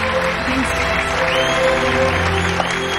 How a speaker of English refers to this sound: Her friends gave an applaud.